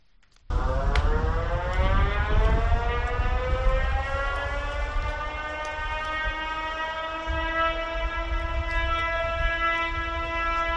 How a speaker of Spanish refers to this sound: Dieciocho potentes sirenas se instalaron en Venecia en el año 1969 para alertar a los ciudadanos de la llegada del agua alta, que de forma cíclica subía hasta inundar toda la ciudad.